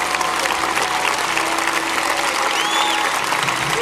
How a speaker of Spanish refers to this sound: Me está llegando más, aplaudan el Espíritu Santo de Dios.